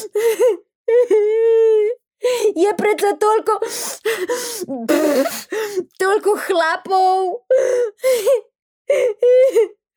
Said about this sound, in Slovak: Vyrážala zo seba pomedzi vzliky.